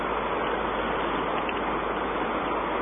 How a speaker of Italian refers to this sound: Vedi? Non è alto. C'è solo un po' d'acqua. Dai.